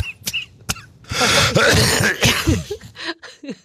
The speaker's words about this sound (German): Huste ruhig.